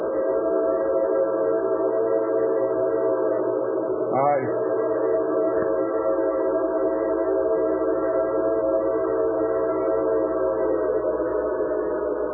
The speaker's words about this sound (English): Here comes your train